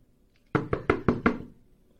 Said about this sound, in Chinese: 谁敲门敲的那么大声呀？真是的。我先去开门啊。